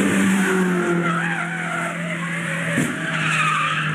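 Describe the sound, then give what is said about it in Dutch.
A car skids loudly on the Nürburgring race track, tires squealing in long wavering high tones over engine roar, with a brief sharp crash-like burst near the end before the screech continues. “Kijk maar op YouTube, want ja, de crashcompilaties die vliegen daar om je oren. Ik heb even een stukje eruit gehaald natuurlijk.”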